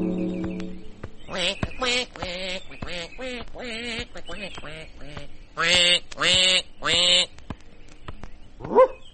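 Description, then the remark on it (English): A duck quacks repeatedly in a quick, uneven series of nasal, raspy calls, with three louder quacks near the end followed by a short, sharp final squawk. The calls sound fairly loud. “Quack, quack, quack.”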